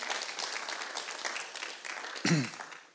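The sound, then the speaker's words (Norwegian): An audience claps steadily for a group of panelists, a dense, continuous wash of applause, with a brief voice or cheer rising above it near the end. “Så tror jeg det er mange som kjenner deg, så skal vi gi en god applaus til gjengen her.”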